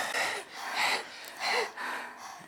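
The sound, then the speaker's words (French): Heavy, rhythmic panting from a procession of animals catching their breath after running at night: several quick, breathy huffs in a row, fairly quiet, with no talking. “Le cortège, haletant, s'arrête à ses côtés.”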